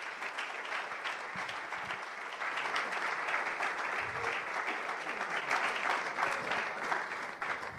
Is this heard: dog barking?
no